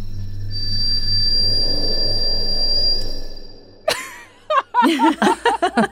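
A mouse howls into the sky after killing and eating a scorpion, a thin, high, steady whistle held for about three seconds over a low background hum. Choppy, laughter-like vocal bursts follow.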